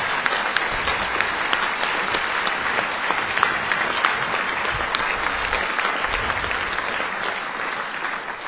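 Sustained audience applause fills the room, a dense, steady patter of many hands clapping at even loudness for several seconds with no talking over it.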